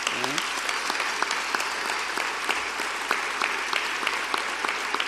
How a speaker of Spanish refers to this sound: pediría un aplauso para nuestros sacerdotes.